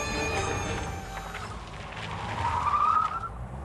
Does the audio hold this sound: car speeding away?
yes